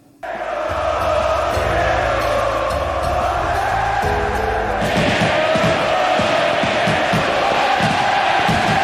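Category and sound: crowd, stadium spectators cheering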